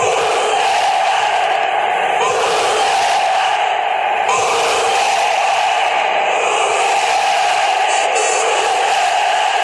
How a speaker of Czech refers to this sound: Proslulý bojový pokřik brněnských fotbalových fanoušků vítá nového mistra Česka. Legendární pokřik fanoušků Zbrojovky Už jsme tady dal také název dokumentu režiséra Jiřího Papouška z roku 1978.